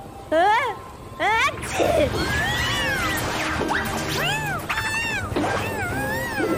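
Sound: cats meowing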